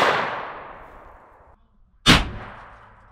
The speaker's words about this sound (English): We're gonna take a shot at our armored truck, see if we penetrate it. Okay, full metal jacket is first. Here we go. And now the boat tail hollow point.